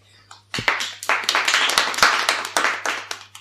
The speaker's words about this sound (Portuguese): Os nosos parabéns para estes escritores e escritoras. Un aplauso para todos e todas.